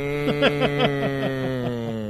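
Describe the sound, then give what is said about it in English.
A steady voiced drone, a person imitating the giant pig creature from Star Wars drinking out of a trough, broken by a quick run of rhythmic gulping pulses that slow and fade toward the end. “And with me is the co-host, the giant pig animal drinking out of the trough,”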